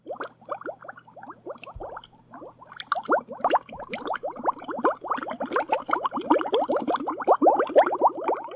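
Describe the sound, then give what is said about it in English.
Steady bubbling and gurgling of water in a two-person hot tub atop the Butterfield Park Water Tower, a dense churn of small rising bubbles that grows louder and busier over several seconds, with a low hum underneath and no voices. “And now, podcasting from a two-person hot tub high atop the Butterfield Park Water Tower”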